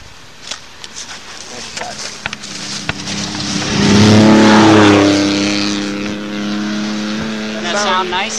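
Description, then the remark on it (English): A four-wheel-drive race car revs and roars past, its engine note climbing to a loud peak midway before fading away, with people talking faintly. “Oh, okay, here's the four-wheel drive coming.”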